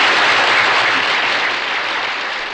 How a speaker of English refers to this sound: Let's have a nice round of applause for Mr. Orson Welles.